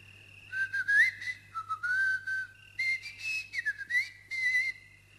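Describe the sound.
A long, wavering whistle drifts up and down in pitch over several seconds in a loose, melodic line, broken into a few phrases, with a steady low hum underneath and no talking.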